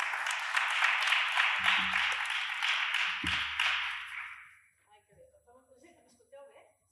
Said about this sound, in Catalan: Llavors, gràcies de nou per ser aquí i un aplaudiment ben gran per ella, sisplau.